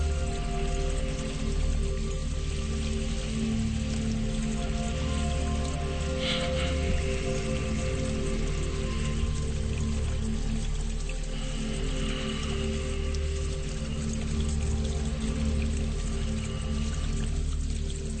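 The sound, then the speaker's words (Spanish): A steady wash of water pours down a waterfall from high on a tall mountain, rushing on without pause, blended with a soft sustained musical drone; no voices are heard. “La cascada cae desde lo alto de la montaña y al final se ha formado una cueva.”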